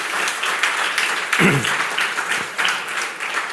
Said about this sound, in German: Und das ist doch auch mal ein Applaus wert.